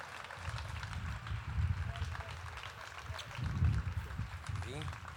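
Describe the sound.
Sustained applause from a crowd, a dense, steady patter of many hands clapping at moderate loudness, with voices murmuring and calling out beneath it.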